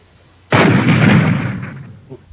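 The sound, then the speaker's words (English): The right engine of a twin-engine jet aircraft fails in flight with a sudden, loud cannon-like bang, followed by a harsh, broad roar that slowly fades over about two seconds. No voices. “The right engine suddenly, with a loud bang, like a cannon shot, followed by a howl coming from nowhere, denied offering any more of its services.”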